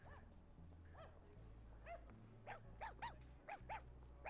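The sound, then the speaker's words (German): Dogs walked by their owners on a cobbled street bark at pigeons, other dogs and people in a string of short, sharp yips, some doubled, a few louder and others fainter, over a steady low rumble of car and bus traffic and background noise. “Manche Hunde sind tiefenentspannt und andere bellen Tauben und Hunde und Menschen an.”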